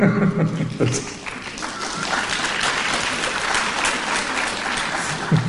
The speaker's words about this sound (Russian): Ну-ка, все вместе, уши развесьте. Лучше по-хорошему хлопайте в ладоши вы.